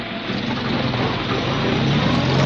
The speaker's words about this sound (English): And so it was that at 7:20 p.m. on July the 26th, I was standing on Victoria Station waving a fond farewell to aunt and child as they shoved off in … car to Brinkley Court, her place in Worcestershire.